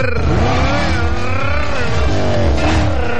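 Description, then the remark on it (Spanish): A car engine revs loudly and continuously, its pitch rising and falling, with a tire squeal mixed into the roaring motor noise. “No, hoy día no vamos a usar el auto, no vamos a usar el auto porque hoy es el día nacional del sin auto.”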